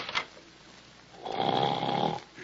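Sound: dog snoring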